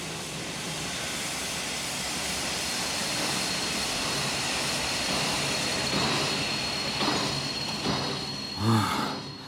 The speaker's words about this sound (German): Was war das denn? Das war eine Notbremse.